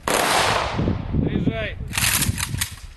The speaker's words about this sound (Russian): В честь погибших воинов звучит оружейный салют.